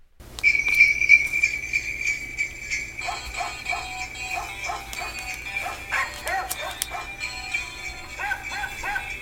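A battery-powered 5 by 7 inch musical greeting card plays Jingle Bells as a string of electronic dog barks, bright and tinny, with a steady whistle-like tone underneath and a low constant hum throughout.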